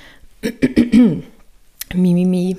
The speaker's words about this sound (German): Muss ich mal kurz räuspern.